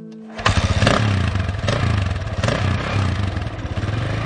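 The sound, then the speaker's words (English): A motorcycle engine roars to life and revs in a few throaty surges, its loud rumble pulsing steadily with no voices present. “I should buy a motorcycle.”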